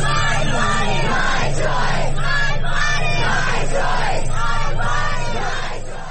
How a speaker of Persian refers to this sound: آنها هم ساکت ننشستند، به خیابان ها آمدند و فریاد زدند بدن من حق من است.